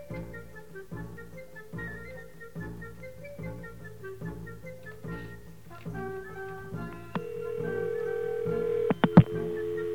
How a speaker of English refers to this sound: Okay, there we heard the ring and we heard the dial tone.